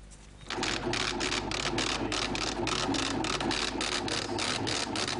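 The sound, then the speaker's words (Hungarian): A braille embosser, a special printer that lets blind and partially sighted people read information, at a new methodological centre for the visually impaired in Budapest's 14th district, prints with a loud, rapid, rhythmic mechanical hammering, a steady run of repeated clattering strikes that starts abruptly after a brief quiet moment and continues throughout. “Ez egy speciális nyomtató. Ennek segítségével tudják elolvasni a vakok és gyengénlátók az információkat.”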